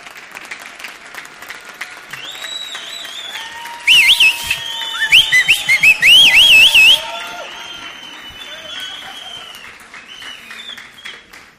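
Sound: audience applauding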